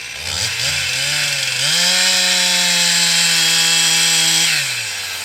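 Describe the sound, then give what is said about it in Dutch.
A chainsaw idles briefly, then revs up loud and steady as it cuts the felling notch into a tree trunk to fell the tree, holding a strained whine for a few seconds before easing back down. No one speaks. “En je ziet dat hij nu aan de valkerf is, hij nu aan het zagen.”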